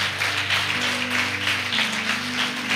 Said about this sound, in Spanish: ¿Cuántos pueden dar gloria a Dios? Dele un fuerte aplauso a nuestro Dios. Aleluya.